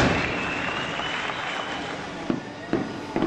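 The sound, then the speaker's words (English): Fireworks crackle and pop over a steady roar of crowd noise in Thailand, at a celebration of the king's 80th birthday, with several sharper bangs bursting out near the end against the continuous outdoor din. “The fireworks and the birthday party comes just weeks before Thailand elects a new civilian government”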